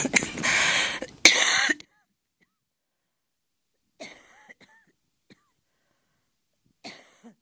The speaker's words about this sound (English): Appropriate, I should cough during a healthcare segment.